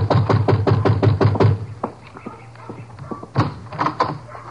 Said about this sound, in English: And you better knock again.